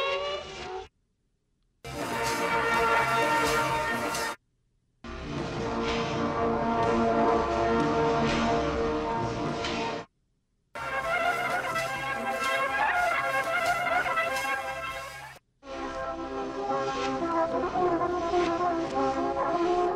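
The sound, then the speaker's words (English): A tape loop played at normal speed gives a looped, warbling guitar-like effect with dense, ringing harmonics, loud, cut into sections by several brief silent gaps; no one speaks. “Turns out like it's some sort of weird guitar effect at regular speed.”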